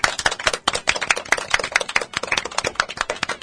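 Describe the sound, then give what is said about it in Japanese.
Brisk applause from a small group, a steady patter of sharp claps running for a few seconds, fairly loud and with no one talking. “拍手 でいっ。”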